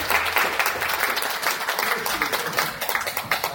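A crowd applauds steadily, many hands clapping in a dense, continuous wash of sound that stays fairly loud from start to finish, with faint voices underneath.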